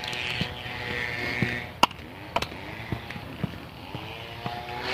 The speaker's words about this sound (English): I don't know if they're taking down limbs or they're scrubbing up against the roof or what, but there doesn't seem to be any kind of break to it. So usually you hear the chainsaw buzz and then the branches fall.